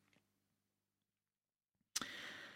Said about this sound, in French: Ce sont des grandes partitions chez Messiaen et c'est pas toujours très commode à manipuler, donc vous entendrez le bruit des feuilles, des pages qui tournent.